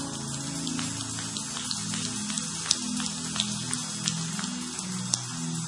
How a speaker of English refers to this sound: give them a great clap offering. Come on.